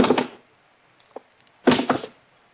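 Shoes taken off and dropped one by one on the floor of a quiet house: two heavy thuds about a second and a half apart, with a faint small knock between them and quiet all around.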